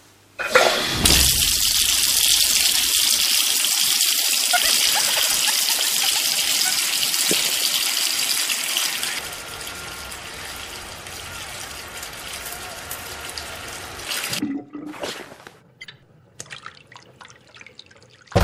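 shower water running

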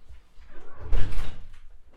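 door being closed

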